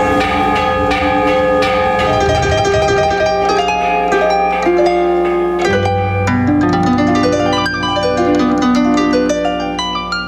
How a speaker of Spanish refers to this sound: En medio del intercambio, justo al mediodía, comienzan a sonar las campanas en la iglesia de Santa Catarina, patrona del pueblo, que anuncia la despedida de las almas de los fallecidos de manera trágica o en accidentes.